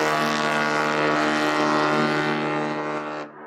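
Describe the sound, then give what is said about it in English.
A foghorn gives one long, loud blast, a deep, steady, buzzy tone rich in harmonics that holds for about three seconds before cutting off abruptly. No one speaks. “This is a foghorn.”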